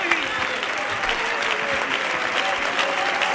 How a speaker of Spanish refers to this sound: No, no, quedarte ahí. El aplauso para ustedes.